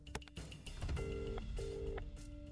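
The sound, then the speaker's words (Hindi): A phone line's ringback tone sounds twice as a call to Digambar Sahab goes unanswered, two steady electronic rings separated by a short pause, over low background rumble and a few early clicks, with no one speaking. “ओफो, दिगंबर साहब भी फोन नहीं उठा रहे हैं।”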